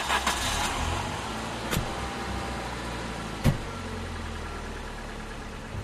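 A car engine runs steadily with a low, constant rumble, broken by two brief sharp clicks, as the car drives through Shepperton, where a new highway is being built, and is caught in a big traffic jam. No one speaks.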